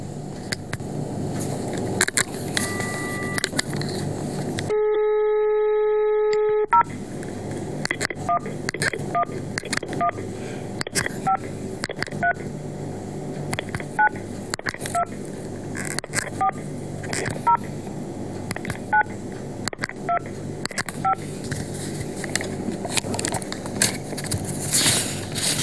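A phone line with a steady dial tone, then a quick run of keypad beeps as a number is dialed, then repeated ringback tones in even pulses over faint background noise: a call on 17 March near 4 pm to the mobile phones handed out by Carrió, reaching a Movistar voicemail.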